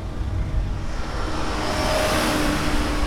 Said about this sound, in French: Là, il y a vraiment un défilé incessant de voitures qui arrivent d'Ukraine.